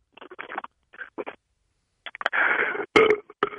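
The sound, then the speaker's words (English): A few short gulping or slurping noises as someone drinks beer, then a brief, raspy burp about half a second long, followed by a couple of small clicks. No one speaks. “Wait, let me drink my beer and burp.”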